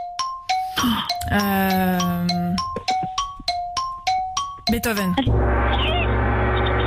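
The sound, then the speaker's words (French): In a quiz game with five seconds to answer, a quick run of bright chiming notes, a voice speaking briefly over them, then a loud, sustained gong-like tone marking the end of answer time rings out to the end. “Beethoven juste avant le gong.”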